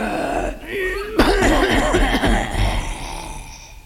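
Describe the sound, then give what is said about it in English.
A voice imitates a dragon coughing out smoke: a low raspy rumble, then a sudden harsh burst that breaks into gravelly, wavering coughs and sputters, fairly loud, fading to a breathy hiss. “Then the dragon awoke, and I coughed out some smoke.”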